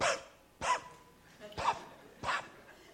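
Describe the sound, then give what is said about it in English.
A person imitates the voiceless bark of a big dog that lost its bark after surgery to open its airway, four short, breathy popping bursts spaced unevenly, moderately loud, with quiet pauses between them and no talking. “And when he did that, it was even more, because this big, huge dog, and all he could do was pop, pop.”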